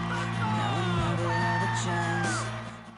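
A person yells loudly and continuously for a few seconds at a football game, a strained, wavering shout over a busy, noisy background that fades slightly at the end.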